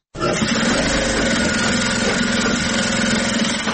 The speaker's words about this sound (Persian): ماشین‌های خیاطی برقی در یک سالون کلان بر میزهای مخصوص گذاشته شده و دختران توسط آن لباس می‌دوزند.